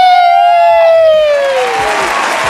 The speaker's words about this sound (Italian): Guarda, il pubblico non si ferma di applaudire. No, dai, lasciamo questa standing ovation.